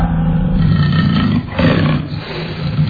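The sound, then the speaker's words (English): A tiger roars loudly, a deep, rumbling sustained roar lasting about three seconds with a brief dip partway through before surging again. No voices are heard. “He thinks it's another tiger, and another tiger has thick skin and fur. Listen to Roy.”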